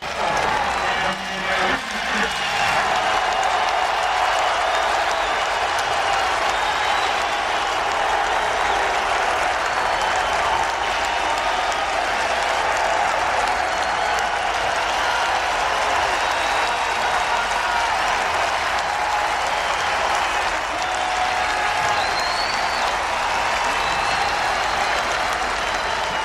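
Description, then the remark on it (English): A large stadium crowd in Chicago applauds and cheers steadily for nearly half a minute for returning baseball player Tim Anderson, a former White Sox player now playing second base for the Angels. It is a dense, sustained roar of clapping that stays loud throughout, with no one speaking over it. “And Tim Anderson getting exactly what he deserves from this crowd here in Chicago.”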